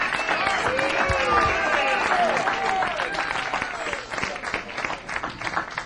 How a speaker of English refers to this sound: How about one more round of applause for … and the quintet on the stage?